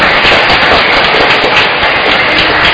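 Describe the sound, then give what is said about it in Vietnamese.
A church audience breaks into loud, sustained applause to welcome the priest leading the parish retreat before Mass, a dense crackle of many hands clapping at once that stays steady and even throughout, with no voices heard over it. “Xin đại cộng đoàn đón mừng cha bằng một tràng vỗ tay thật lớn.”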